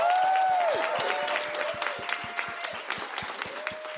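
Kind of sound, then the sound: crowd, audience round of applause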